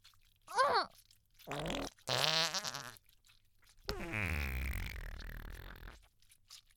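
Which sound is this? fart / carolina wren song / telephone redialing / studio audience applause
fart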